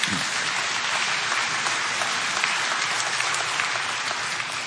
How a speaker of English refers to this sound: Everything on this list, this church does every single day. You can give yourself a hand.